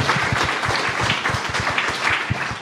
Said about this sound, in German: Dafür auch nochmal einen Applaus.